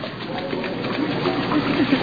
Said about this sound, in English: And why don't you kids splash around a little bit, and we'll just listen. Go ahead and play in the water.